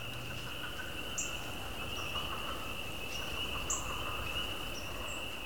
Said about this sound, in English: We find them plus a bonus, a robust Greek chorus of spring peepers and first leopard frogs. Did anyone mention it's January the 29th?